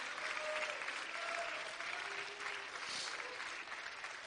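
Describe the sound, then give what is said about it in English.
An audience at a Sunday night church service claps steadily in praise of the Lord at the preacher's request, a dense wash of many hands at fairly even loudness, with faint sustained tones and a few voices underneath. “But if something I'm saying is resonating with you and I'm almost done, would you just give the Lord a hand clap right now?”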